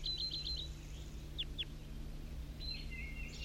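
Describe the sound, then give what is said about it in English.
Calls of a wild red male bird: a quick series of four or five high chirps, then two sharp descending notes, and later a thin whistled trill, all over a steady low hum. “These are all calls of the wild bird.”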